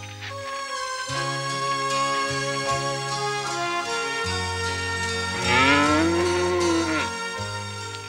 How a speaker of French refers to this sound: C'est une vache qu'on entend?